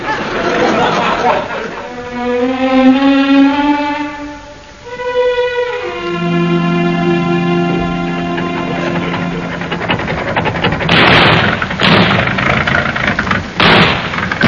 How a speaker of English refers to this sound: Car's going better since we had the new engine put in.